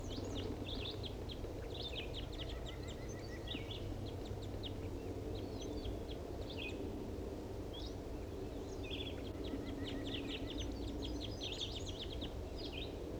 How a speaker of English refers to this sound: Start recording that wild bird.